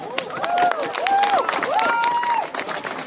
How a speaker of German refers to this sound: Ja, Applaus